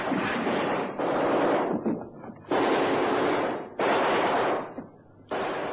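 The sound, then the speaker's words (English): Heavy gunfire from a ship's guns booms in a series of broad, roaring blasts as the gunners open up on both sides while approaching a gap. Each loud burst is sustained for about a second before fading, with rumbling noise between shots and no voices. “Tell the gunners to open up on both sides just as we approach the gap.”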